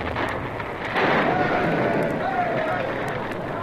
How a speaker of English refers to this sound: A few minutes later, the new fuse had been attached and lit. The explosion rocked the earth.